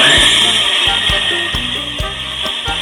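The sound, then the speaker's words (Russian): A steady motorized whir of an immersion blender runs continuously, loud, with low knocking thumps as the blade bumps through thick sauce. “Итак, смотри, все, мы загружаем блендер в наш соус.”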